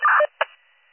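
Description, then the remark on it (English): Radio dispatch cancel tones sent to cancel a second rescue unit because there is only one patient: a loud, tinny quarter-second burst of tones, then a brief second blip, trailing off into faint radio hiss. No one speaks. “Can you just hit the tones out for the cancel?”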